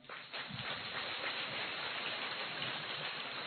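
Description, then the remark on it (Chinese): Light, scattered applause, a soft patter of clapping that holds steady for a few seconds with no voices over it, sounding much like rain. “啊，我就知道很多人听不懂啊，所以掌声就是像今天早上的雨一样稀稀拉拉的。”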